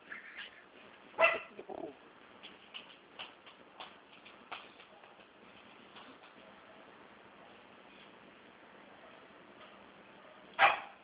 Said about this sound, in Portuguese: Ô, cachorro.